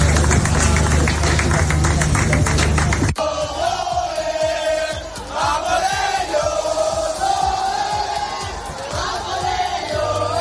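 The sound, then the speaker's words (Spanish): A dense crowd roar gives way to many voices cheering and shouting in long, pitched calls as the Spanish boat arrives along the Seine in Paris at the opening of the 2024 Olympic Games, with a steady thumping beat running underneath throughout. “Son los gritos de todos los que han podido presenciar la llegada de la embarcación española por el río Sena.”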